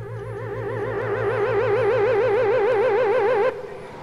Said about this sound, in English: Look, Schlock, here comes a car, and feast your Vulcan squinties on that driver.